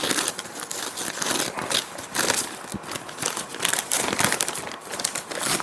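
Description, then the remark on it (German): Wrapping paper crinkles and rustles steadily as a gift is unwrapped, with dense, irregular bursts of crackling and occasional sharper tearing sounds, and no talking. “Aber vorher möchte ich, dass du mein Geschenk auspackst.”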